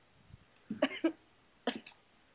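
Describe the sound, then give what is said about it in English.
Three short, harsh coughs: two in quick succession, then a third after a brief pause, moderately loud against faint background hiss with no talking. “I was just coughing to get off.”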